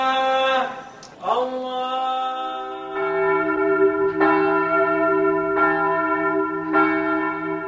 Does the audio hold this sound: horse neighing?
no